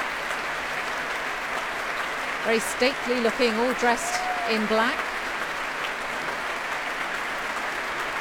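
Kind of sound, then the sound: crowd, applause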